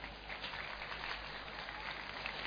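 Steady audience applause for seven people who have come up in front of the audience, a dense wash of many hands clapping at an even level throughout, with no clear individual claps standing out and no voices over it.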